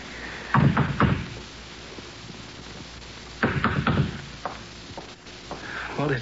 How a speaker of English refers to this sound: What do we just go up to the door or what? What else? Go ahead, knock.